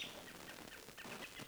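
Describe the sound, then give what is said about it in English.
Robins giving alarm calls through the woods, a scattering of short, high chirping notes repeating irregularly over a steady hiss of background noise, with no one talking. “Robins all over the area are calling.”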